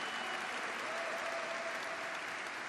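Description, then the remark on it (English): Steady, dense applause from an audience at the San Francisco Latino Heritage Month Awards at City Hall, after a music and dance performance by Grupo Aranero Mayab; a continuous wash of many hands clapping at an even loudness throughout, with no voices standing out. “We want another big round of applause, please, to Grupo Aranero Mayab for that beautiful and energetic performance that we heard tonight.”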